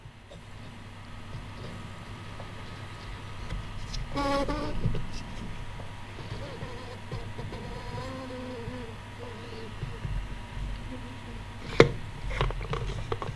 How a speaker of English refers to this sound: And it's ready for the plunger to plunge. So here we go.